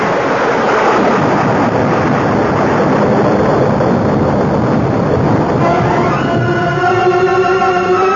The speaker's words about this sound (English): A bolt of lightning went straight to Calcimal's iron helmet as though he were a lightning rod. But the explosion. A volcanic eruption.